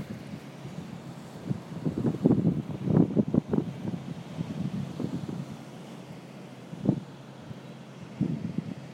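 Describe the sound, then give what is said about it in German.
Gusty wind buffets the microphone in low, uneven rumbles over a steady wash of surf on a black lava beach at Mosteiros in the northwest of São Miguel, with large black rocks off the coast; several stronger gusts rise and fall; no voices are heard. “Im Nordwesten von São Miguel sind wir jetzt. An einem wunderschönen schwarzen Lavastrand.”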